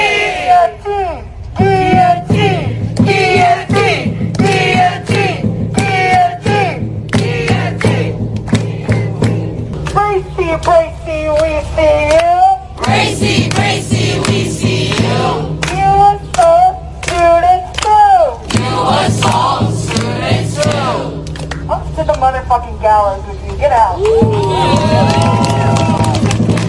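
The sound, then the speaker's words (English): A crowd of kids yelling and chanting "guillotine" together, loud overlapping high voices that rise and fall for the whole stretch, with scattered clapping mixed into the noise. “You can hear the kids yelling guillotine in the video.”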